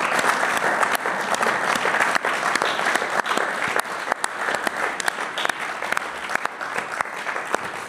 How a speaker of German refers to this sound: Großer Applaus bitte nochmal für das ganze Team von Weiermann.